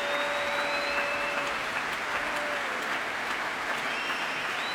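Dense, sustained applause and cheering from a large concert audience at a flamenco performance with conductor Juan Colmena and the orchestra, a huge cheer for flautist Richard Davis, with a few whistles rising above the steady clapping and no one speaking.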